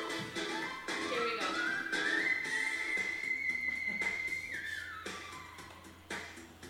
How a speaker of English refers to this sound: That's in what's called the whistle register. You hear how it sounds like a whistle?